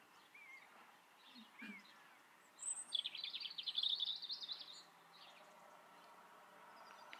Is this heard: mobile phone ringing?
no